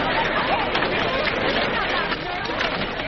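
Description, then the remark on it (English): A dense crowd murmurs and chatters continuously, many overlapping voices blending into a steady, loud hubbub with no single words standing out, holding an even level throughout. “What's the crowd for?”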